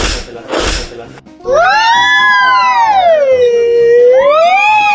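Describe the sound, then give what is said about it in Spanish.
After two short bursts of noise, a loud, sustained wail rises and falls slowly like an ambulance siren, voices imitating it on a children's radio program, continuing steadily to the end. “¡Parecemos ambulancia!”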